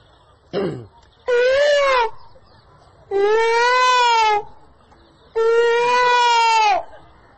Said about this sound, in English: Because if you stay here, this is such a peaceful place. I remember I went to the States in the middle of the night, all of a sudden I heard these strange sounds. You always hear But if you stay here, first thing all night long you hear the peacocks.